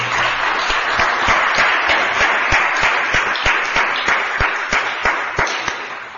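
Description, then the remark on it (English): A crowd applauds steadily for the city clerk, Mr. Olson, and his team for running the city's elections. A dense wash of clapping with some sharper individual claps standing out, holding at a fairly even loudness before easing slightly toward the end. “So I just want to give a round of applause to Mr.”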